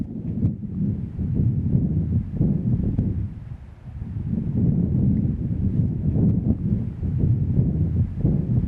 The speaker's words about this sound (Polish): Takiego wiatru jednak nigdy w górach nie nagrałem. Nagrałem podobny. Na nadbałtyckiej plaży. Posłuchajcie go teraz ze mną.